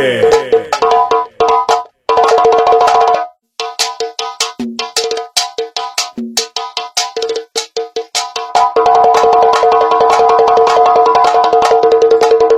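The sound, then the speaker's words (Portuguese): A Duarte Som Automotivo car sound system wall (paredão) plays a treble test, bright, treble-heavy sharp ringing tones, first in quick rhythmic bursts with brief gaps, then settling into a loud, continuous high-pitched pattern. “Isso é Duarte Som Automotivo, agora os agudos, bebê.”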